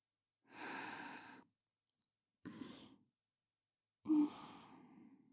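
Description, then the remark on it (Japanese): Heavy, hot, breathy exhalations come in three separate bursts: a long airy sigh, then a shorter breath, then a final strong one. The breathing is soft but clearly audible, with no talking. “私の熱い吐息が聞こえるだろう。”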